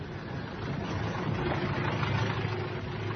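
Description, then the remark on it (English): A taxi's engine idles steadily, a continuous low rumble with a faint rattling hum that holds even for the whole moment, with no voices. “There's a taxi. Hey, taxi!”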